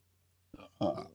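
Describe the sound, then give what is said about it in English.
A single loud belch after drinking beer, rising from a short throaty onset into a long rumbling burp that fades after about half a second, with a faint low hum in the background. “You just listen to me drink beers and belch on a thing.”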